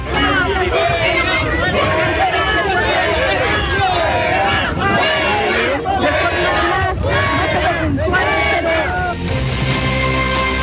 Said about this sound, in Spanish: Bien, ahí escuchábamos gritos de la gente que le decían al presidente Gabriel Boric que se fuera.